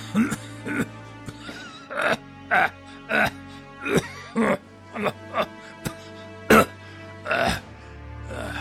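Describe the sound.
A voice acts out a long exhale that breaks into a harsh coughing fit: about a dozen rough, hacking coughs in an uneven burst, close and fairly loud.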